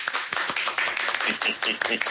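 A few people clap together for a couple of seconds, the claps quick and uneven, close by and fairly loud, with no talking over them.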